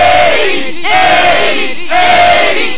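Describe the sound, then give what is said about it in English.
A wrestling crowd chants loudly in unison during a world heavyweight championship match between Kavanaugh and Outlaw, just after an Outlaw DDT. The crowd repeats a short sustained call about once a second over a constant roar of arena noise, with no one speaking over it. “Listen to the crowd chant.”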